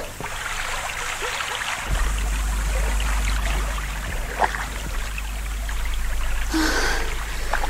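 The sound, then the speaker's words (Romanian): Oars dip and pull through water as a fishing boat is rowed hard at nightfall, with a few distinct splashing strokes, set against a continuous wash of lapping water and a low steady rumble, with no voices. “De m-ar vedea un cunoscut în această barcă de pescar, vâslind de zor în pragul nopții, nu și-ar putea crede ochilor că sunt soția judecătorului Pai.”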